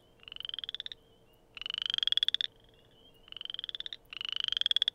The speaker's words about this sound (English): Oh, here's the chorus frog. That's the chorus frog.